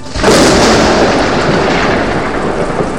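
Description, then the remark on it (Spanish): A loud, sustained roll of thunder starts abruptly and keeps rumbling broadly without pause, fading only slightly over a few seconds. No voices are present. “Ahora, cuando escuchamos los truenos, sabemos que Mujuevio se está riendo porque está satisfecho por habernos regalado su fuego.”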